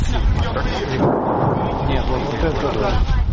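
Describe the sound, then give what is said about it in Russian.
A heavy, close 122 mm artillery gun blast rolls into a sustained low, thunder-like rumble that fills the whole moment, loud and broad, with faint voices murmuring underneath, in the Velyka Novosilka area. “Это конечно, совсем рядом. 122 миллиметра минимум был теплот. Звук был пушка.”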